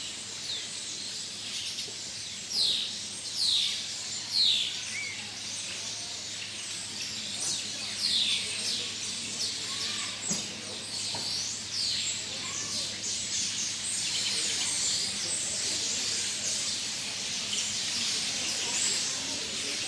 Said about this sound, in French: Et c'est au milieu des oiseaux enregistrés par … à Syracuse qu'on signe la fin de l'émission.